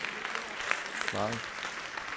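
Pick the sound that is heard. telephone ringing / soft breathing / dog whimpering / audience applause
audience applause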